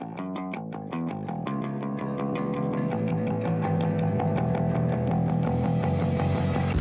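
A music track with a steady driving beat and dense distorted, effects-laden instruments, building in loudness over several seconds with no voices.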